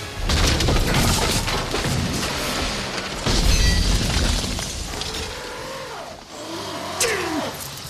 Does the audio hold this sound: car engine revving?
yes